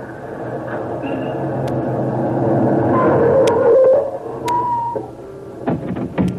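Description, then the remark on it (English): A car engine runs steadily throughout, a continuous low rumble with a droning hum, fairly loud, with a few sharp clicks and rattles toward the end, the car waiting outside the office of the Hong Kong Port Intelligence Authority. “Better shut that motor off”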